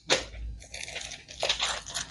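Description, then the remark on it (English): Busy rustling and clattering of small objects being shuffled and pushed around, with a couple of sharper crunchy bursts; it sounds like a hand rummaging through a pile of little toys. “Whole load of little toys.”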